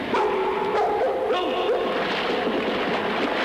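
Watchmen's guard dogs at the mouth of a tunnel network bark and yelp loudly and continuously in a dense, noisy scene, with several overlapping calls and whining tones rising and falling throughout.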